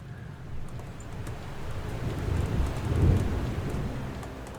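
Steady rain hisses over a deep, rolling rumble of thunder that swells toward the middle and peaks near the end, a continuous stormy wash with no voices.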